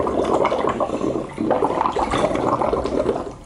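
Someone blows bubbles through a straw into a bowl of water, making a steady bubbling gurgle that runs for a few seconds with a brief lull partway through. No one speaks.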